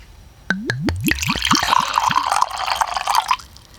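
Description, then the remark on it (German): Dewdrop mead, the Licket variety with vanilla and cherry, poured from the bottle into a glass: a quick run of gurgling glugs, then a steady splashing stream for a few seconds, clear, with no talking. “So, dann schildere uns doch mal deine Eindrücke, während ich mir eingieße.”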